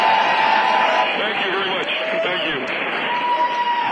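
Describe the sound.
A crowd applauds and cheers steadily for a few seconds, a dense wash of clapping with scattered voices and whoops rising through it, fairly loud throughout.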